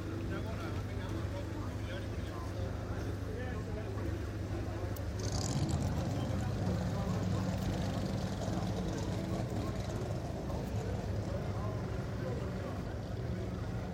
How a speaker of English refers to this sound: So we're just standing on the pit lane. Crews do the final checks and the final things as the car comes past on a tow road. It's a Corvette.